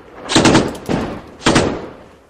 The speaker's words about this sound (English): Sound here from Ramadi. Gunfire.